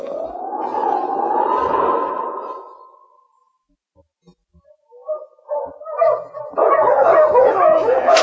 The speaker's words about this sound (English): His team was made up of 5-6 huskies with an exceptionally good dog running as a free lead.